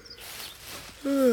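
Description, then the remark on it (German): After a second of faint ambient hiss, a loud rooster crow bursts in with a strained, harmonic tone, cut off just as it starts. “Das war nur der Hahn.”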